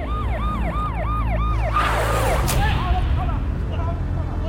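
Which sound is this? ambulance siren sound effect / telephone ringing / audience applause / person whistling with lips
ambulance siren sound effect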